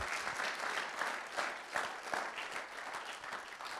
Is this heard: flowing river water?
no